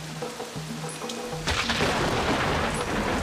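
A faint steady tone gives way halfway through to a sudden, loud rush of heavy rain with a deep rumble of thunder underneath, continuing to the end.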